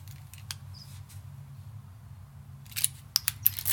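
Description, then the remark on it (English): Metallic clicks and rattles of keys working the locks of two doors, one a security door: a lone click early on, then a quick cluster of sharp clinks and clacks near the end over a low steady hum. “Yeah, let me get the doors, okay?”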